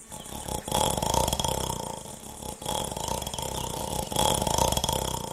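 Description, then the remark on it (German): A voice imitates snoring with loud, rough, rattling rasps, held for a few seconds each and broken by short pauses, in roughly three long snorts. “Schnarch ich wirklich so laut?”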